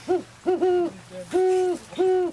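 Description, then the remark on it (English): A great horned owl hooting deeply and resonantly in a rhythmic series of hoots, some short and some drawn out, clear, with no one talking. “And we have just a tiny little bit of sound here of a horned owl that I want to play.”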